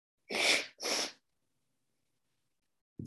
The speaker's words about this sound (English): Forgive me about all this sneezing.